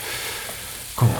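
Steady hissing crackle of bacon frying in a pan, continuous, with a brief louder clatter or stir near the end.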